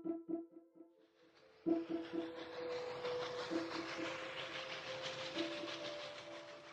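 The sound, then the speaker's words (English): A train bound for Liverpool moving along rails: a few rhythmic metallic clanks give way to a steady, loud rumbling roar with a constant droning hum, without any voices. “That evening, Holmes and I sat on the train bound for Liverpool.”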